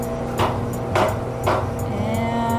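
A tool is punched through a plastic liner of a sediment core fresh from the seafloor to take a gas sample, in three sharp, evenly spaced knocks, each a brief crunchy thud, over a steady low mechanical hum with no talking.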